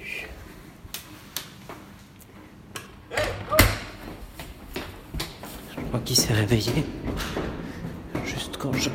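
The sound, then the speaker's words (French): A door slams shut with one loud thud partway through, surrounded by scattered knocks and clatter, with soft murmuring voices in the background. “Juste quand j'ai claqué la porte.”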